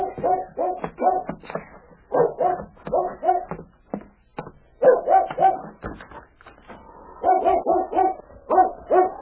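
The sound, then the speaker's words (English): A dog bedded behind a shed barks near midnight, over and over in quick bursts of two or three, loud, with brief pauses between the volleys and no one talking. “Bobby was awakened by the bark of a dog he had bedded behind the shed”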